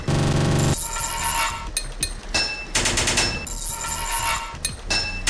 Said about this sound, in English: 12 total pipes to fit this level. 5 hits of your hammer to fit a pipe.